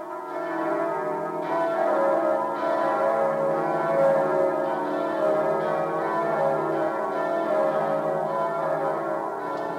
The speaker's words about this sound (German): Jede Gemeinde legt in ihrer Läuteordnung fest, wie lange die Glocken erklingen. 3 Minuten wird in der Regel für einen ganz normalen Sonntag geläutet, 5 Minuten für einen besonderen Feiertag wie Weihnachten, Ostern und Pfingsten.